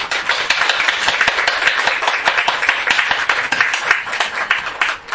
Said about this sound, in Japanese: 今日は本当にありがとうございました。改めて拍手お願いします。